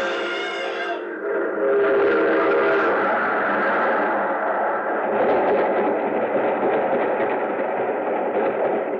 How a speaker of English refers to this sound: There's a train coming. There he goes. He's going to try to beat it.